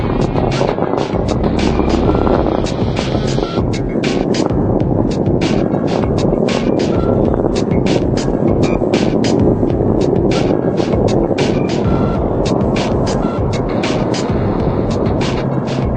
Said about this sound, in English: Miles per hour, 1.5 miles in altitude, 7 miles downrange from the Kennedy Space Center. Discovery's engines are throttling down as the orbiter passes through the area of maximum pressure on the vehicle.